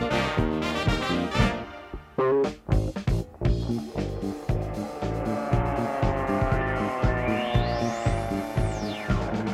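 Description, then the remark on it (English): A cartoonish car sound effect: a revving engine with bright, horn-like beeps over a bouncy musical backing, ending in a rising then falling whistle-like sweep. Loud, no talking. “Driving down the street, my horn goes beep, beep, beep.”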